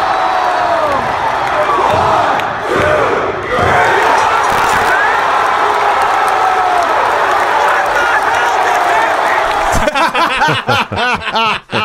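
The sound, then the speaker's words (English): A loud, dense crowd at a WWE NXT house show where Samoa Joe won the NXT title, in a fan video, roars and cheers continuously, a wash of voices with shouts rising above it, then rhythmic chanting pulses in the final seconds. “You know what I like about these fan reaction videos is hearing the crowd before the WWE mutes the mic, the crowd.”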